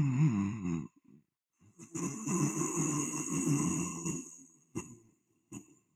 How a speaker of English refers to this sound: I'm not overemphasizing. You're supposed to do this, what's called ocean wave breath, where you're like snoring in the back of your throat, which is easy for me.